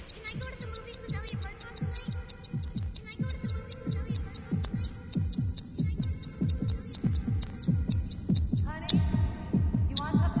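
Keys tap steadily against a chair arm, a quick run of light metallic clicks at an even, clock-like pace, over a low throbbing hum.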